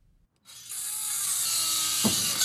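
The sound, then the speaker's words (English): A huge wooden shipping crate holding a heavy bronze statue of Walter Harper is opened outdoors on a dry Wednesday in front of the Doyon Limited building in downtown Fairbanks. After a moment of quiet, a loud, steady, hissing mechanical whir starts and keeps going, with one short low thud near the end. No one speaks. “worked to open up the huge shipping crate that held the statue.”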